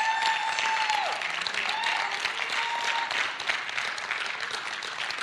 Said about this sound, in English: Now give the Lord a great hand clap offering.